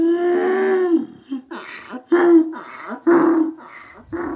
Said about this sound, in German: Und als hätte er mitgehört, macht der Esel Jakob laut.